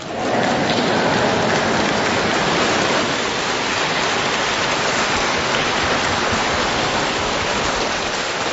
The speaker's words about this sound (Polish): Tak myślę, że te wszystkie brawa są dla Jezusa Chrystusa, dla tego, który nas tutaj gromadzi, dla Jego Matki, bo przecież jesteśmy jedną wielką rodziną Radia Maryja.